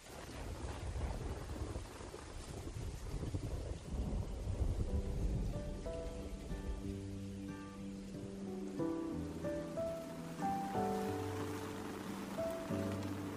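A summer thunderstorm with steady rain hissing throughout and deep rolling thunder, loudest in the first few seconds; gentle sustained musical notes rise in over the storm partway through. No one speaks.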